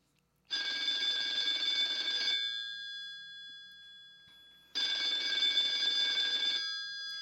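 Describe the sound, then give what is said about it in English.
A telephone rings in two long, loud bursts of bright trilling tone, separated by a couple of seconds of silence, clear with no voices. “I better get this phone call.”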